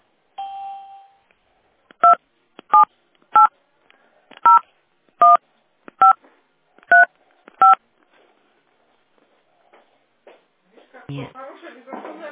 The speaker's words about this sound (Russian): Если вы хотите получить информацию по своим услугам, пожалуйста, после звукового сигнала введите 12-значный номер лицевого счета или 10-значный номер домашнего телефона и нажмите решетку.